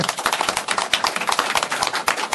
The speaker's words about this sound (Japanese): 今回は801回記念になります。拍手。